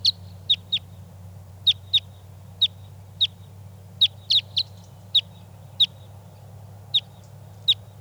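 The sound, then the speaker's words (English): A decoy bird, number 395, calls excitedly beside a set net in a rapid, uneven series of sharp, high-pitched chirps, some in quick pairs, over a steady low rumbling hum with no talking. “And we've got the net set up with decoys 387, 395. And 395 is excited.”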